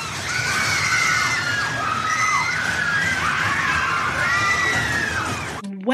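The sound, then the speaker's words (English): Many voices scream together in long, overlapping high-pitched wails that rise and fall over a steady rushing rumble, like riders on a roller coaster, before cutting off abruptly. “Well, that sounds like a roller coaster ride, doesn't it? These screams?”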